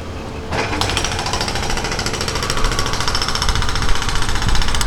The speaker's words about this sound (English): Look at that. Right in front of my house. Got a pneumatic hammer.